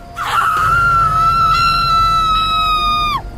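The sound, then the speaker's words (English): A woman lets out one long, shrill scream, held steady at a high pitch for about three seconds before it drops off sharply, with a low windy rumble underneath; at night by a sandy trail among palm and date trees near the sea, in heavy wind. “I heard a woman scream.”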